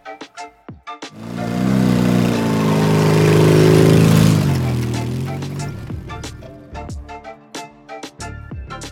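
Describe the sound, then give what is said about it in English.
A dirt bike being ridden on the street through traffic roars loudly for a few seconds, its buzzing engine pitch climbing and then dropping away, with sharp clicks and taps before and after. “Hey fellas, I hope you don't plan on riding those dirt bikes on the street.”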